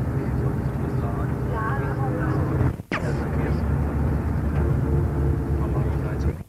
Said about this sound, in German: Da kommt gerade ein Güterzug reingefahren.